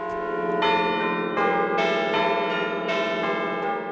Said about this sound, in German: So soll die Weltpremiere Zusammenklang in St. Gallen erklingen. Beim Konzert für 118 Glocken aus 29 Kirchtürmen der Stadt St. Gallen und der Countdown läuft.